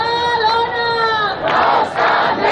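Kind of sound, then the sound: crowd, protesters chanting slogans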